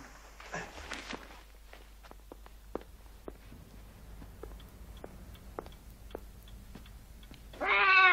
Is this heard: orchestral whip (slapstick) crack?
no